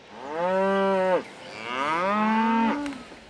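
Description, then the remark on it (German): A cow in a radio studio moos twice in succession, each call long and loud, with a rich harmonic tone that rises and then falls away. No talking is heard. “Aus diesem Tier hier, also aus der Kuh, kommt euer Käse.”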